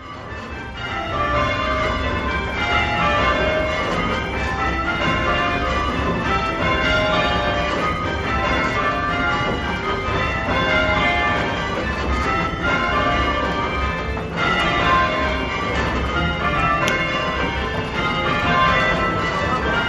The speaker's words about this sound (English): By the way, I also notice that the higher bells aren't so audible as the lower ones, and that may be because of where I was in the ringing room, or just the fact that the bigger bells are bigger bells. But anyway, I do notice that.